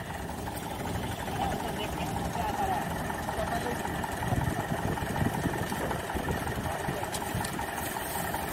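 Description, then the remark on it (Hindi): A Farmtrac 45 tractor engine runs steadily while being tried out on a very wet, muddy track, a loud continuous diesel rumble with a rough, churning texture that holds for the whole stretch without pausing. “Farm track 45 को आजमाएंगे इस गिल्ली लीक में।”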